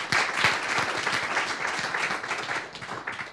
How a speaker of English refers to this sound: I just want to give it out for, we'll carry on with the others, but can you give a round of applause for as well?